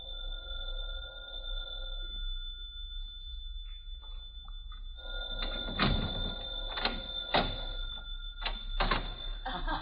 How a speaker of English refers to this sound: Just a minute, dear, is the phone. Sit down while I answer.